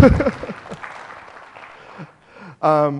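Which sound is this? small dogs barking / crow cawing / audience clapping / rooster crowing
audience clapping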